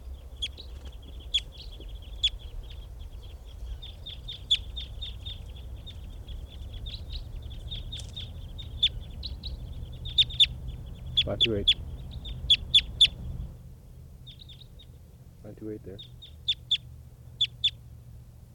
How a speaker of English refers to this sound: And the flock is taking off, leaving some birds in the net.